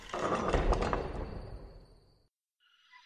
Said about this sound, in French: Soudain, la porte tremble, elle grince et elle s'ouvre tout doucement.